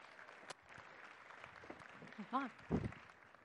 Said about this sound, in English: Thank you for listening to me today. Can you give a round of applause